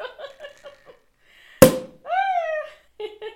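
A single sharp, loud pop of a cork bursting from a Prosecco bottle after its wire is twisted off, opened for a toast while filming on location, followed at once by a rising, high-pitched vocal squeal, with brief murmuring voices before and after.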